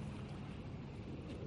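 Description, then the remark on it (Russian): A motorboat engine drones and chugs steadily as the boat pulls away from a harbor, a dense low rumble blended with wind and water noise, with no voices. “Моторка тарахтя отошла от гавани.”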